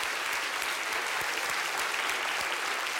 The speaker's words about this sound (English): Great, so let's give a big round of applause to our hiders.